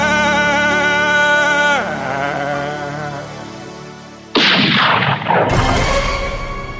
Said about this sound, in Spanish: Se oyó un disparo.